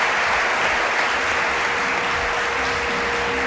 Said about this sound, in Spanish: Un aplauso para ti, pido. Gracias por el trabajo.